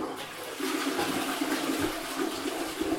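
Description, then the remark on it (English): A toilet cistern refilling about a minute after a flush, a steady hiss and rush of water that runs continuously for the whole stretch, with no one speaking. “when I flushed it, it would flush normally, and then about a minute after it flushed, it would make this kind of”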